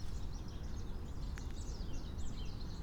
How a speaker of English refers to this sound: I hear wood ducks.